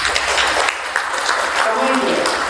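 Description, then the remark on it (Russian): An audience at a conference applauds the organizing team seated among them, a steady, dense, even patter of many hands clapping at once that holds a constant loudness throughout, with a faint voice surfacing beneath it near the end. “Благодаря вот этой команде, которая есть, вот сидят команда, вот ребята очень хорошие, я горжусь ими, поэтому вот это я хотел бы, чтобы вы хлопали и медлим.”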